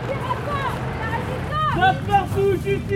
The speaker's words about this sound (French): On entend bien l'hélico, hein.